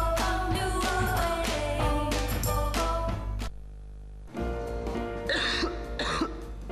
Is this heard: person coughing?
yes